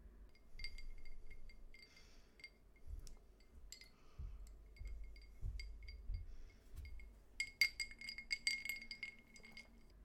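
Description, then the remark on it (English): Glasses clink repeatedly while drinks are refilled, with scattered light taps early on and a denser flurry of bright clinks near the end, over a low background rumble. “Do you want me to refill your glass as well?”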